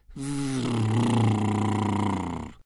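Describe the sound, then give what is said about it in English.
A voice makes a buzzing lip trill (a horse blow), imitating a motorbike engine, as part of a vocal resonance exercise gliding from an extended V sound. It is held steady for over two seconds with a low, slightly wavering pitch and a rough, rattling texture. “Say the V again, and this time let it glide into a horse blow, but making it sound like a motorbike.”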